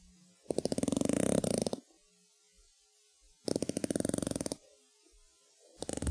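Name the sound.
sperm whale clicks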